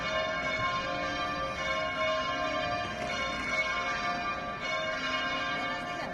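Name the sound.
cathedral church bells ringing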